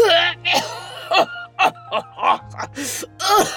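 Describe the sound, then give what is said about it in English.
A dying old man on a bed, in a strained fit of coughing: roughly eight harsh, raspy coughs in quick, uneven succession, several trailing into pained, groaning breaths, over a faint steady low hum. “Then he erupted into a fit of pained coughing.”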